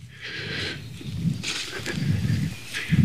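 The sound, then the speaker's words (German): Rising gusty wind rushes across an open meadow, with low buffeting rumbles swelling and fading in waves and a steady airy hiss above, no voices present. “Aufkommender Wind mag kein Vogel.”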